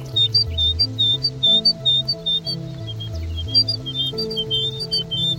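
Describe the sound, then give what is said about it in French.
A great tit sings its territorial song, a bright two-note phrase repeated steadily and clearly over a low, droning tonal background. “Petite mésange là, vous disiez? Ouais, petite mésange charbonnière.”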